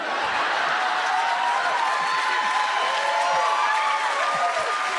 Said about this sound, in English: But, no. Hey. You shouldn't clap for that. Don't.